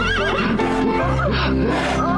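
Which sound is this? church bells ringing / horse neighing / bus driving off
horse neighing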